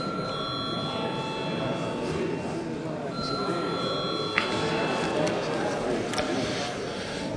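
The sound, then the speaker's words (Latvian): A parliamentary voting bell, called for by the presiding officer before deputies vote on sending a bill to a committee, rings steadily for several seconds, a sustained high metallic tone over the low murmur of many people talking, with a couple of brief clicks near the end. “Lūdzu zvanu.”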